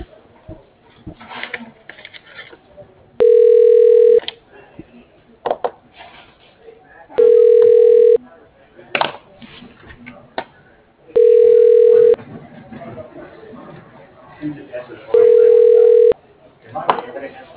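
A telephone ringback tone repeats four times, each steady, mid-pitched burst lasting about a second and separated by a few seconds of faint background murmur and noise on the phone line, heard while an automated phone system tries a person's extension.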